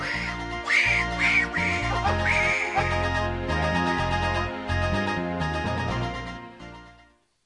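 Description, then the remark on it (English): An inflatable duck head deflates with a long, squeaky, quack-like honk of escaping air. Its pitch wobbles and steps for several seconds, loud, then fades out. “The duck's head is deflating.”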